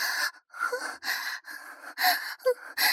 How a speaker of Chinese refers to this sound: 听得见我的喘息声吗？